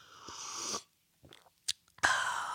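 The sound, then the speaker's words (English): Someone takes a long airy slurping sip of Culligan water, pauses with a couple of small gulps and mouth clicks, then lets out a loud breathy sigh of satisfaction. “This sip of water has been brought to you by Culligan.”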